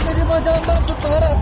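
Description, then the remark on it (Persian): A loud, dense crowd roar of many overlapping voices during a night-time clash between police and protesters in Istanbul, Turkey, continuous, with sustained shouts or whistle-like tones cutting above the din. “شهر استانبول دیشب هم شاهد درگیری میان پلیس و معترضان بود.”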